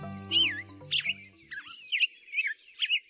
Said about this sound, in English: Dr. Clinton Francis is a sensory ecologist who studies how noise pollution affects birds, like this black-headed grosbeak.